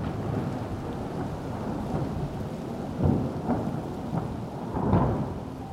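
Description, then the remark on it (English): Steady rain hisses throughout while thunder rumbles and cracks several times, the heaviest roll coming near the end. A dense, continuous storm with no voices. “Bernard Vonnegut had made a thunderstorm.”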